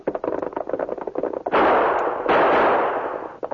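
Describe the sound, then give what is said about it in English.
Rapid rhythmic thumping of hoofbeats gives way to two loud gunshots fired at a pony rider carrying a mail pouch, the second about a second after the first, each blast followed by a long, roaring decay that fades out abruptly. The rider is hit in the shoulder and falls off his horse. No one speaks. “You nailed him. He fell off his horse.”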